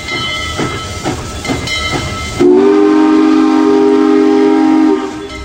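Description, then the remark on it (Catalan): A steam train chuffs along the rails with a rhythmic, hissing beat, then a loud, sustained whistle blares for a couple of seconds before fading, with no voices present. “Quan els agents de la Gestapo han aconseguit treure-li la informació que volen, posen la Conxita dins d'un tren i la porten a Alemanya.”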